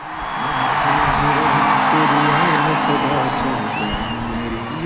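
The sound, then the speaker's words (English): A huge crowd inside a cricket stadium in Gujarat, India, roars with sustained, dense cheering at a Namaste Trump rally for Donald Trump, punctuated by whistles and rising whoops, while a faint amplified voice or music murmurs underneath the steady wall of noise. “That's the sound of a crowd inside a cricket stadium, and those baseball caps don't say Make America Great Again, they say Namaste Trump.”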